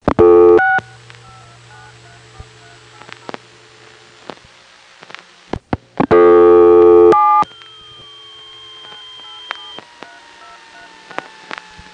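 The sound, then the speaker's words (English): Touch-tone crosstalk on a phone line after a single digit 4 is dialed: two loud bursts of touch-tone dialing, with fainter overlapping tones, beeps and scattered clicks from other customers dialing in the background between them. No one speaks. “The touch tones you heard in the background were other customers.”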